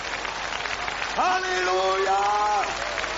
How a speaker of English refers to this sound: I bless you in the name of Jesus. Let's give a big, big clap for Jesus as he has never had this week. Hallelujah.